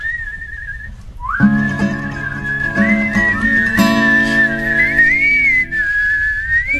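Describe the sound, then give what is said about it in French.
A single whistled tone starts alone, then several people join in whistling the opening notes of a song together, holding long overlapping notes that waver and slide upward, fairly loud, with no talking. “En fait, peut-être tout le monde doit siffler avec moi.”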